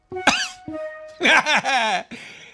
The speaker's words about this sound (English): You cough on them and say, uh-oh, looks like you have it too now.